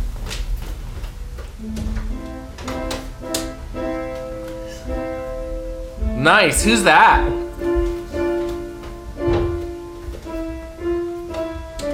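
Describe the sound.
Piano notes struck one at a time in a slow, halting melody during a piano lesson at home, with a brief burst of voices talking over it partway through.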